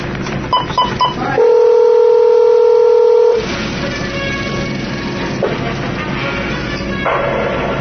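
A quick series of touch-tone dialing beeps calling the White House, then a loud, steady telephone tone that holds for about two seconds before cutting off into a busy, noisy background.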